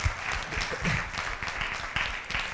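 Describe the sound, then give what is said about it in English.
A crowd applauds steadily, many hands clapping in a dense, continuous patter at a moderate, even volume throughout. “A round of applause.”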